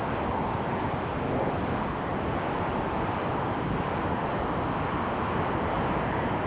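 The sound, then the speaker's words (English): A steady, unbroken roar of road and engine noise from inside a caller's moving car, heard through a narrow telephone line on a live call-in show, constant in loudness with no voices. “Sounds like you're in the car.”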